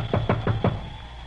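knocking on a door

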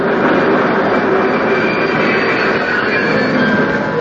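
train arriving and stopping

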